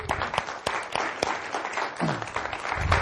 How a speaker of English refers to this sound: So if you don't mind, I'd like to give those troops a round of applause for what they do.